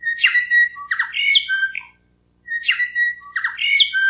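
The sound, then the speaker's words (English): A bellbird calls a short run of clear, ringing notes, pauses briefly, then repeats the same phrase, played as a radio morning bird call before the 7 a.m. news. The song is fairly loud, with no voices. “The bell bird had been used as Radio New Zealand's shortwave interval signal since the 1940s”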